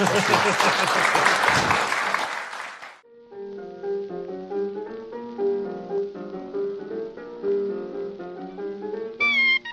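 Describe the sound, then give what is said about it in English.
A dense burst of audience applause for two band members fills the first three seconds, loud and crackling, then cuts off as a person begins speaking over a quiet background. “Give them a hand, please.”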